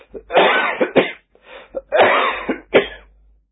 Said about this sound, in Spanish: Un polvo que hacía toser tremendamente. Nos pusimos un pañuelo en el rostro. Era una leve tormenta de arena.